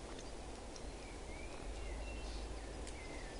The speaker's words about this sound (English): These birds are here to remind you of something. To be present. Can you hear the bird song?